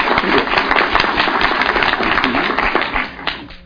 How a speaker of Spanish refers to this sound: Por favor, un aplauso.